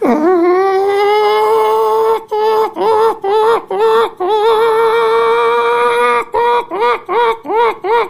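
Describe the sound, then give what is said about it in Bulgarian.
A voice imitates hens rising and singing their clucking song, with a long drawn-out nasal call followed by a quick run of short, rhythmic clucks, loud and alone without other talk. “Кокошките стават и запяват кокошите си песен.”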